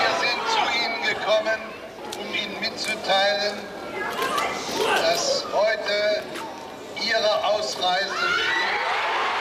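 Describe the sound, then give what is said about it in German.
A large crowd in Prague cheers and shouts in jubilation, many overlapping voices rising into whoops and excited cries, loud and sustained throughout with brief swells. “Der Jubel ist eine Sache.”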